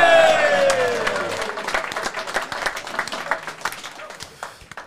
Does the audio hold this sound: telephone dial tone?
no